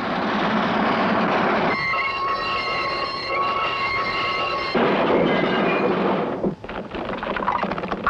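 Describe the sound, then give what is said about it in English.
A train rumbles loudly along the tracks, a steady heavy clatter, with a sustained high whistle-like tone sounding for a few seconds in the middle before the rolling noise continues. “Clever disguising themselves as the Southbound Express.”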